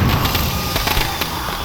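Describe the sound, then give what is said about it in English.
A rapid string of firecrackers popping and crackling over a dense, noisy background, with several sharp bangs standing out in quick, irregular succession. No voices are heard. “Firecrackers send one of my predators spinning over a pagoda roof.”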